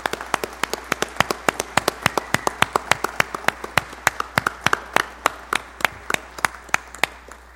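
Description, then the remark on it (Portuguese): Applause from a small audience for a doctor: a run of sharp, distinct claps in a fairly steady rhythm, moderately loud, lasting several seconds with no voices over it. “Uma salva de palmas ao Dr.”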